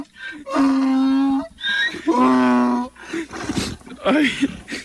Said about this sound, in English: He starts crying. ¿Qué pasa? And the donkey starts crying. What an amazing thing.